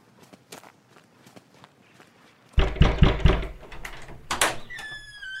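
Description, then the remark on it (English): Soft, steady footsteps walk along for a couple of seconds, then a series of loud knocks thuds against a wooden door, followed by a brief high tonal sound. “Follow me and I'll knock on the door.”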